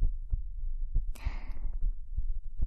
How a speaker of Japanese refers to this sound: 心臓がドキドキしちゃってるのも本当のことなんだよ。